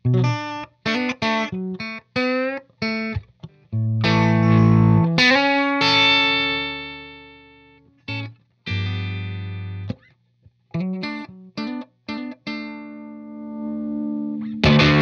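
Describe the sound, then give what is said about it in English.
Overdriven electric guitar played alone and loud through an overdrive pedal and amp, the pedal's gain knob turned all the way up and the overdrive regulated with the guitar's volume, gritty clipped tone: bursts of short stabbed notes broken by a few longer chords that ring out and slowly fade. “But in this case, I've got the gain knob on the pedal, the only control on the pedal, turned all the way up to the maximum, and I'm regulating the overdrive just with the volume pedal on the guitar, and you get a huge variation in tones.”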